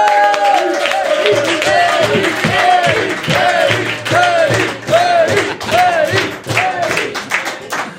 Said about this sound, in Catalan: Rebem un fort aplaudiment a Eric Berger!